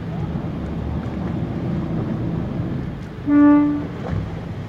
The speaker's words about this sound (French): il va mettre un petit coup de klaxon comme ça les plongeurs vont venir s'accrocher. On peut venir s'accrocher ouais, pour pouvoir se rapprocher du bateau.